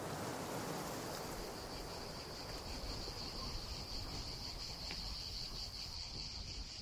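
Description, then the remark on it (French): Cicadas drone steadily in the distance at the end of summer, a continuous high-pitched buzz that holds for several seconds over a soft, constant wash of background noise, with no one talking. “On entend encore les cigales au loin.”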